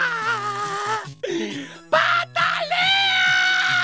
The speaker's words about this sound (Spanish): Y si no te lo quiere comprar, llora. ¡Grita!